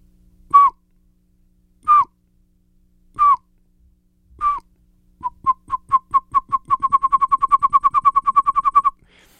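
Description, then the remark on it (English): A person whistles an imitation of a pygmy owl call: four evenly spaced hollow toots, then a rapid, accelerating series of shorter toots building into a fast rolling trill. Clear, no talking. “It's super responsive, and pygmy owls' calls are fairly easy to imitate, so it's just a simple whistle.”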